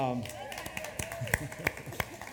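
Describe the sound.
Scattered, sparse hand claps from a gathered crowd, a handful of separate sharp claps at uneven intervals, fairly quiet and distant, with a voice trailing off at the start.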